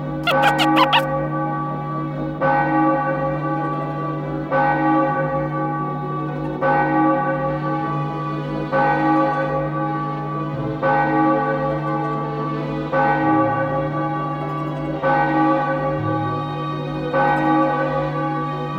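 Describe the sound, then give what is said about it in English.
Bells ring out loud and resonant, struck roughly every two seconds in a steady pattern, each tone hanging and overlapping the next, after a brief bright jingle at the very start. No voices. “You'll know the magic is working if you hear the ringing of the magic bells.”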